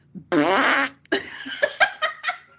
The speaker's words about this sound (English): It's like... It's a fart joke.